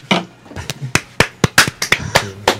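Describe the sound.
A brief, sparse round of applause: roughly a dozen sharp, irregular hand claps, fairly loud, with a low murmur of voice underneath.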